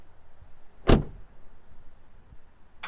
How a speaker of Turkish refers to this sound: Ya anahtarı neden fırlatıyorsun ya?